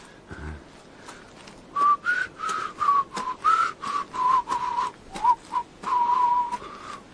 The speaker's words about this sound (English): Whistle. Yes, that's the thing to do, whistle.